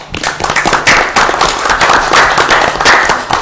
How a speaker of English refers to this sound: I hope you'll give them a nice little round of applause, if you would, please.